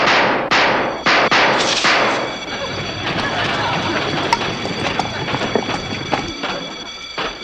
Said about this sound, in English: What is that? Hey, sounds like gunfire. It's an attack! Call out the guards!